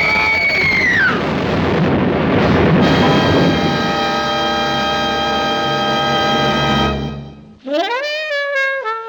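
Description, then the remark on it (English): A speeding car crashes into a police roadblock: a brief squealing screech of brakes gives way to a loud, rough burst of crashing noise, then a steady blaring horn-like tone that cuts off into a rising, wavering siren-like whine. “We're gonna hit.”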